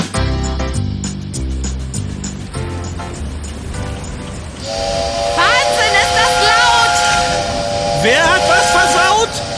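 A locomotive's signal horn blows loud and sustained, with a hiss of steam around it, after a few seconds of rhythmic chugging from the train.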